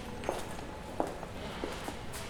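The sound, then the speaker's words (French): High heels click on the stone flagstones of a church, a handful of sharp, uneven steps echoing softly off the stone walls over a steady low hum, with no voices. “Le bruit des talons qui résonnent sur les dalles et qui rebondissent sur les parois de pierre.”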